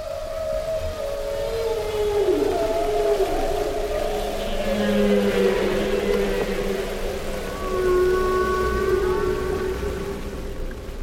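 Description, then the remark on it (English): Humpback whale song: long, sliding moans and higher drawn-out wails overlap and bend in pitch over a steady watery hiss, continuing for the whole stretch with no voices. “listen to Katy Payne's recordings of the songs of humpback whales”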